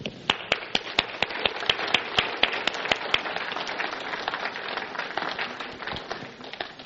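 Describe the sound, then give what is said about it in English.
An audience applauds mothers steadily for several seconds during a Mother's Day church message, a dense wash of clapping with a few sharper claps standing out, holding a fairly even level throughout. “And we love you, moms. And we applaud you.”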